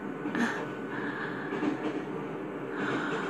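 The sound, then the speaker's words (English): A steady, continuous rumble from inside a moving, crowded train carriage, with a low droning roar and faint higher whines that rise and fade over the few seconds, and no one speaking. “Would you like a hand job while standing here in the back of a crowded train?”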